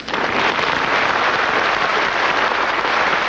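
Steady, dense applause from a live audience as a performer comes out to do an impression of a singer, a continuous crackling wash of many hands clapping at constant loudness with no voices over it.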